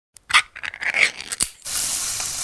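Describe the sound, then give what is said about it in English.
Spam sizzling in a pan: a few sharp crackles and crinkly pops, then a steady, bright sizzling hiss that holds at an even level to the end, with no voices. “Oh, hear that? That's the Spam brand singing you a love song. Spam, sizzle”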